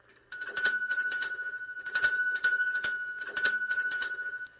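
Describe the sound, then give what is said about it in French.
A small hand bell is shaken rapidly in two loud bursts of jangling rings, its bright metallic tone sustained throughout with no voices. “Ils n'entendent point, et ma sonnette ne fait pas assez de bruit.”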